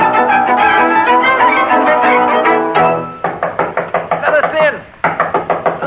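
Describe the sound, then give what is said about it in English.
A rapid, insistent series of loud knocks on a door, roughly a dozen raps in quick rhythm, over a busy background of music and voices. “open the door. Come in.”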